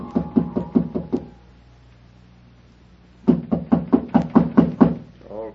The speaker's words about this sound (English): Footsteps again. And this time they stopped outside my door.